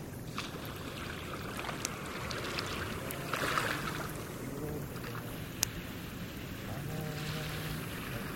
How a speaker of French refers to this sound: Île de Moréa, à une demi-heure de bateau de Tahiti, sur la plage la nuit, sous une myriade d'étoiles